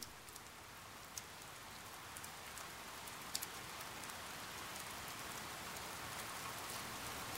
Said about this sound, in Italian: Senti, la pioggia parla.